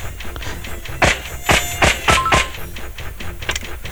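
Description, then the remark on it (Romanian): Thin, whiny mosquito buzzing from a video game with seven mosquitoes left and 23 seconds remaining, broken by a quick run of sharp, loud slap-like hits, with no one talking. “23 secunde și mai avem 7 țânțari pe care la care nu știu dacă nu cred că mai ajung.”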